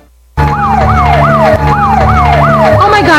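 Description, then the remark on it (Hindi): The siren of a police car with red lights wails loudly, rising and falling in quick repeating sweeps over a steady engine rumble, with no talking. “लाल बत्तियां वाला सारे तो ताड़ी गड्डी मगर घूम गया.”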